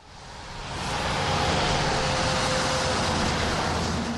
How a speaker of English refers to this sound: Cars and trucks zoom on Interstate 43 in downtown Milwaukee. The din goes on night and day.